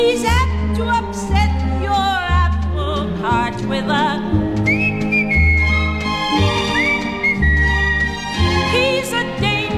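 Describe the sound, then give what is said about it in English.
A song with bass and backing instruments, where a clear, high whistled melody glides in over the music at the end of the song, with long sustained notes and small slides, sitting prominently in the mix. “But it's those words, and then the whistle at the end was just fantastic.”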